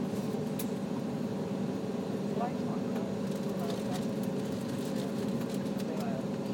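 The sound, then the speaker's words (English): Inside a passenger plane cabin, a steady, droning engine hum fills the air, with a low rumble and faint tonal whine, broken by a few soft clicks and muffled murmurs of voices in the background. “So you can hear the general atmosphere of a plane.”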